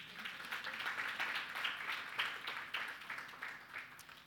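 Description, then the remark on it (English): A sustained round of applause from a crowd, dense overlapping hand claps forming a steady bright patter that holds for several seconds at moderate loudness, with no talk over it. “That certainly deserved a round of applause.”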